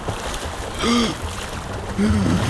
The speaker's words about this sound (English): He was happy to hear the sound of their paddling away.